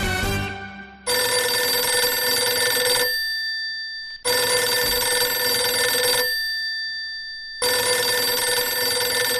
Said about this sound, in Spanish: No puede pasar esto. Que suene el teléfono y que no lo cojas.